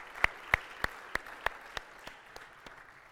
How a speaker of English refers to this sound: That is something to clap for.